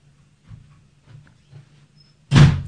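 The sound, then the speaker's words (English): After a few soft muffled thumps over a low hum, a door slams shut with a loud, sharp bang that rings out briefly at the end. “What's with the door slam?”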